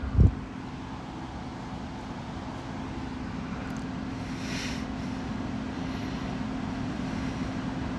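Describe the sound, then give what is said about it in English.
Steady outdoor rumble of road traffic, a continuous low drone of many passing cars bringing a crowd of 33,000 to watch a team on a Saturday night of Labor Day weekend, with some wind buffeting the microphone and a brief thump at the start, with no talking. “I mean, look at all these cars.”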